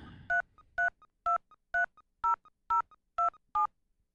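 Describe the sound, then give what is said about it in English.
Eight crisp touch-tone keypad beeps in a steady, evenly spaced run as a home phone number with area code is entered into a cable company's automated phone line, each tone short and clear with faint clicks between them and no voices. “Please enter your 10-digit home phone number, beginning with the area code now.”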